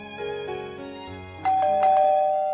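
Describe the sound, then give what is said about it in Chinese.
A melodic electronic doorbell chime plays a short sequence of ringing tones, ending in a brighter, sustained high note with a couple of sharp strikes. No one speaks. “这时候门铃又响了，传来了一声痛苦的尖叫。”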